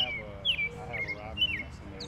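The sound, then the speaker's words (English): Bright, high bird chirps ring out in a quick repeating pattern, three short calls in about two seconds, over a low, steady outdoor background hum, in an urban city park on the Central Island of Tinney Park in Madison, with Lake Mendota, ponds and marshy areas. “We're in what they call the Central Island of Tinney Park, which is really cool.”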